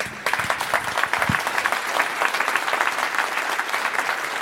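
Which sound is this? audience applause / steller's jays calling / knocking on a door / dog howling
audience applause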